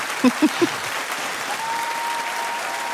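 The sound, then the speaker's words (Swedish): Audience applause, a dense and steady wash of clapping that fills the whole clip, with a few heavier thumps near the start and a faint steady hum running underneath later on. “Ska vi köra en liten applåd här också?”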